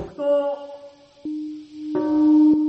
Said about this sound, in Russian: 8:15 утра 6 августа в Хиросиме зазвонил колокол мира. Именно в это время, ровно 70 лет назад, японский город подвергся первой в истории атомной бомбардировке.